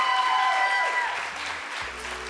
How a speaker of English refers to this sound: That was amazing. Can we get one more round of applause for all our storytellers?